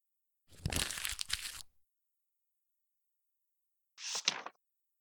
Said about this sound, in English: Here, a clenched fist crumples paper into a ball.